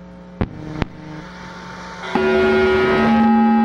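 A synthesizer preset rings out with bright, bell-like harmonic tones. Two sharp clicks come first, then a louder sustained tone enters, shifting pitch slightly near the end, with no talking.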